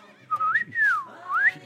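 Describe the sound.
A person whistles a short sliding phrase imitating a dolphin as a sign-off, with rising and falling swoops in three quick glides, fairly loud, no talking.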